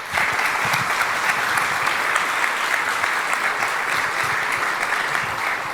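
An audience in Karlsruhe applauds steadily to welcome a speaker from the Forschungszentrum für Informatik: a dense, even wash of many hands clapping at a constant loud level with no voices rising above it.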